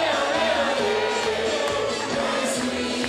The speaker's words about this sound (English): In Buenos Aires, fans were cheering for Lionel Messi after he scored two goals to lead Argentina over Austria 2-0.